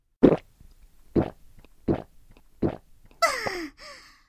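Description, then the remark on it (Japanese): Carbonated soda from a bottle that had been left uncapped and was starting to lose its fizz pours in four deep, hollow glugs spaced about a second apart, then a bright fizzing hiss rises as it fills the glass, with no talking. “まあ炭酸ジュースだけど、ついであげよっか。”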